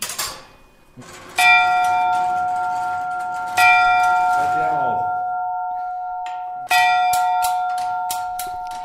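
A tower clock chimes Westminster quarters, striking three quarters of the hour: three loud, resonant bell strokes ring out with long, shimmering decays, followed at the end by a quick run of lighter, higher strikes.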